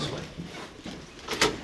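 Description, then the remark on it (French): Another door, leading out to a memorial, is opened, a short rattling clunk near the end that rises out of a steady background hiss. “Ah, on prend une autre porte.”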